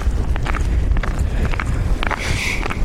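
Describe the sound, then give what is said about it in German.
Steady footsteps of a walker wearing ice spikes crunch and scrape over ground completely iced over by freezing rain falling since the night, each step a sharp gritty click from spiked soles, repeating at a walking pace over a constant low rumble in windy weather, with no talking. “Es ist Eiszeit, es hat gefroren, wir haben Eisregen, es regnet die ganze Zeit seit heute Nacht und alles ist komplett vereist. Und ich habe Spikes an.”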